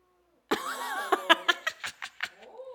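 A male cat lets out a loud, drawn-out yowl that breaks into a series of sharp, rhythmic growling pulses, with no talking over it.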